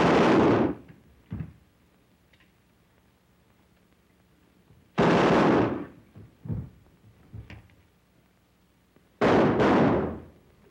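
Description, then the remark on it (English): Three loud, booming gunshots ring out several seconds apart, each followed by a fading echo and a few softer thuds in the gaps. No one speaks. “Yes, I know, but you've got to stop inviting bullets in this direction.”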